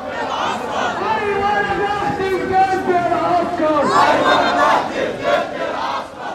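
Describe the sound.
A large protest crowd chants and shouts slogans against the military regime together in sustained, rising and falling voices, loud throughout, with overlapping cries swelling into a fresh surge partway through.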